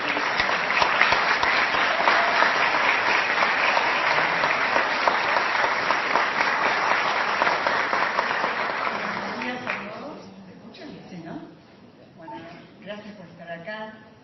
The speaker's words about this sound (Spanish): Fuerte el aplauso para Diana Cohen Agrés.